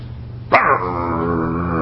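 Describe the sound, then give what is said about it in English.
A dog from a pack of dogs, on seeing a little poodle, lets out a single sharp, loud bark that stretches into a long, steady, tonal wail, with no one speaking. “And one of the pack of dogs saw this little poodle coming along.”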